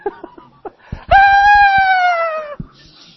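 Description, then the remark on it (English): A single voice lets out a loud, sustained high-pitched scream lasting about a second and a half, imitating a screaming girl fan at a 1960s rock concert, after a few short vocal bursts. “I don't know if they breathed for 20 minutes just screaming all that whole thing.”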